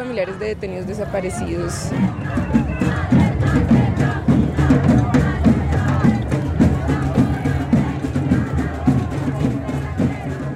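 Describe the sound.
A large crowd of relatives of victims of state crimes, among them grandmothers wearing photos of their disappeared around their necks, fills the scene with dense, overlapping voices and scattered shouts, a loud, steady hubbub that never lets up, with some voices rising above the mass.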